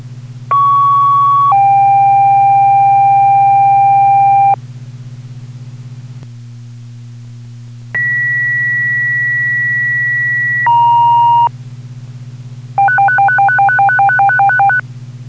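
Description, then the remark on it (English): A Claremont fire department general alarm tone, struck for a chimney fire and possible structure fire with flames in a house: long, steady electronic tones that step between pitches, then a burst of rapid pulsing beeps, all loud over a constant low radio hum. “Give me a general alarm tone to that location.”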